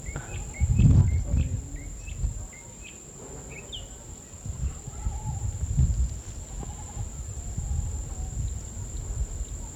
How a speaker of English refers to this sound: We're in an open meadow on a small ridge overlooking a cane field. There's a mockingbird down in the mango tree. It's about 7 o'clock now.